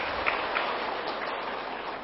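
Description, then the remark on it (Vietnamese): A large crowd of more than 500 Buddhist followers, gathered for an Amitabha Buddha ceremony and Dharma talk, applauds in a dense, steady wash of clapping that holds at an even level throughout, with no voices over it. “Xin đạo tràng cho một tràng pháo tay.”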